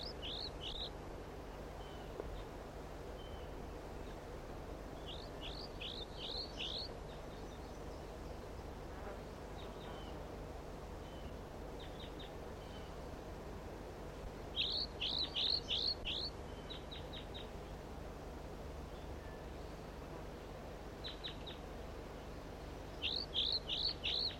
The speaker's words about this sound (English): The juvenile is singing like this, and one of the birds is perhaps down, and 4-3 calls intermittently.